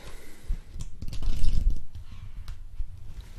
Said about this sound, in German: Ist auch nicht so ein großes Buch und ich auch schon mehrmals hingewiesen habe drauf, von Brian Kaplan, Die Kunst der Vollaufnahme. Und da blättern wir heute mal.